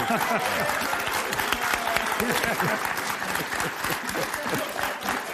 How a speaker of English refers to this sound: That's a mock clap.